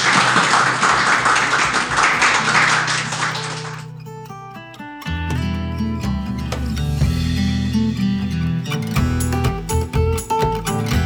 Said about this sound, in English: Everyone, please give another round of applause to Sarah.